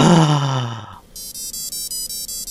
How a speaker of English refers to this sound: That's the Stranger Things theme tune from my watch. On his watch. Cool. He's got a Stranger Things watch.